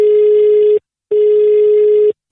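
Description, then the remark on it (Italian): Two bursts of a steady, buzzy telephone ringback tone, the sound heard while an outgoing call to a member of the public rings on the other end, each about a second long with a short gap between, fairly loud and alone. “Vai, telefono, vai, ciccio.”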